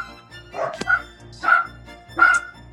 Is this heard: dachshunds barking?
yes